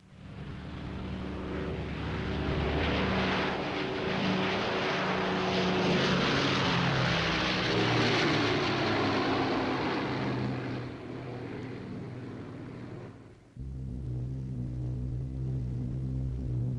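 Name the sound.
airplane in flight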